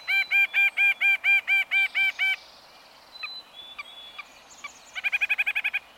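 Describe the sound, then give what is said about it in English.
Nuthatch calls: a steady run of about nine nasal, honking notes, a few softer scattered calls and whistles, then a quicker burst of similar notes, clear with no talking. “It's a clever move, because the nuthatch can spot and eat all the tasty morsels missed by the rest of the birds working their way up the tree.”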